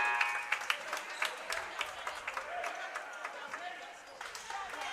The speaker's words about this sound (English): will come out to some applause.